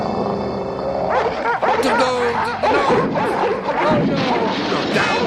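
A chaotic chorus of many dogs at the Elm Street Dog Kennel barking, yelping and snarling together, loud and continuous for several seconds with overlapping harsh barks.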